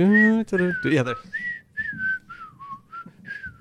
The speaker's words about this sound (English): I thought you were going to start whistling the theme. Yeah, there.